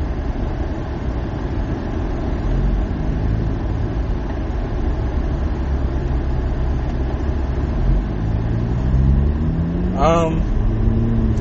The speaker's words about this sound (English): that's a whole ass cop right there. That almost got hit by a semi truck.